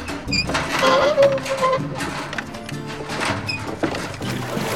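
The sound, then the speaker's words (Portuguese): A lower hatch on a vessel opens with a brief mechanical whine, then clunks and rattling metal that carry on at a steady, moderate level. “Claro, abrindo a escotilha.”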